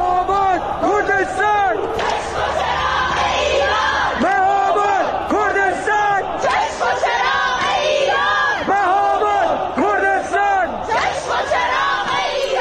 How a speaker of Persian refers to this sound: اینجا هم شهرک چیتگر تهرانه که اینجوری شعار میدن.